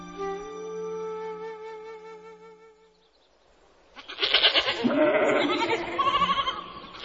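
Goats bleat loudly as they lick a tree trunk: one long, wavering cry, a short pause, then several animals calling at once in a dense, overlapping chorus. No one speaks.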